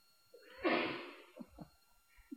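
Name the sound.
sneeze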